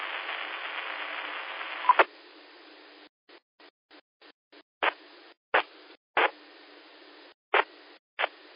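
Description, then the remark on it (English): Thin, band-limited amateur radio static hisses steadily for two seconds, then breaks into choppy bursts and sharp clicks as a weak transmission, not quite reaching the repeater, keeps cutting in and dropping out, with no voice coming through clearly. “I hear something trying to come through, but you're not quite making the repeater.”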